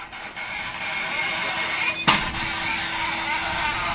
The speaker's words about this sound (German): Per Stahlseil wird hier gerade ein Kabel aus einer unterirdischen Röhre ans Tageslicht gezogen.